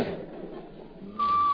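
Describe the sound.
A person gives a short, clear whistle in reply: one steady, sustained note, fairly loud, cutting in after a moment of muffled background noise.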